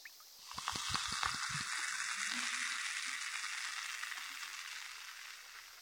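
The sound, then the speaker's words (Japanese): Steady crackling fizz of a cotton swab soaked in carbonated water, like carbonated water popping, fairly soft, with a few faint dull taps near the beginning. No voices. “炭酸綿棒にしてみましょうか。パチパチして音も感触も気持ちいいんじゃないかな。”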